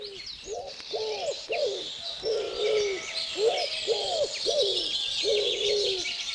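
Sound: bird calls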